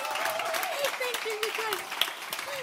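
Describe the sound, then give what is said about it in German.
An audience claps together in a steady, dense wash of applause lasting a few seconds, fairly loud and even, with a faint voice sounding underneath. “Please, can you clap”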